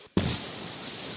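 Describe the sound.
After a brief hush, a voice bursts into a loud, breathy roar imitating a hot air balloon burner, holding the rushing whoosh steadily for about a second, alone.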